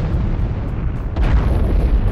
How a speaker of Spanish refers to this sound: Los controladores escuchan las explosiones, pero no pueden verlas por la niebla. Los bomberos tampoco ven el avión de la Pan Am, que estaba a apenas 400 metros del otro.